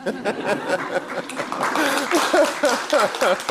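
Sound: audience cheering and clapping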